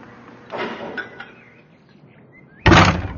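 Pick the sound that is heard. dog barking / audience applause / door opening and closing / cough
door opening and closing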